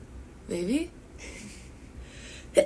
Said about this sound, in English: oh, I keep having to sneeze. Anyways.